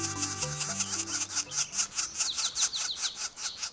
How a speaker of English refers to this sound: This young northern flicker is calling from the ground. Sound like trouble?